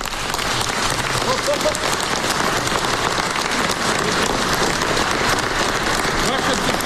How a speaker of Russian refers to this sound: «Ваше святейшество, эти аплодисменты слышны сейчас по всему миру», — заявил Петр Порошенко.